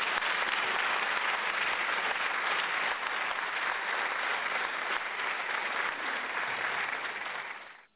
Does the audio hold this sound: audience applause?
yes